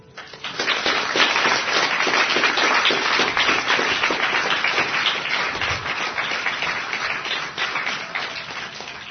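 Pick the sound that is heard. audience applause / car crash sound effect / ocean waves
audience applause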